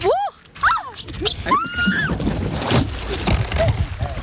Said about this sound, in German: Das Paddel! Oh Gott! Gut, jetzt bin ich ins Wasser gefallen, aber es ist eine schöne Erfrischung nach dieser körperlichen Höchstleistung hier.